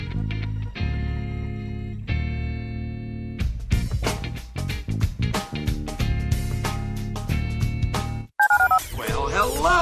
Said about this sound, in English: Dial the phone.